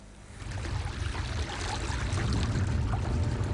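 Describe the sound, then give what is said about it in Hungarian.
Floodwater is pumped out in a steady, heavy rush, swelling slightly at the start and then pouring on loud and unbroken, with no voices. Water from the overflowing Nagyér stream is being pumped away from around three houses in Létavértes, Hungary; 100,000 cubic metres so far. “Ezek környékéről eddig 100 000 köbméter vizet szivattyúztak le.”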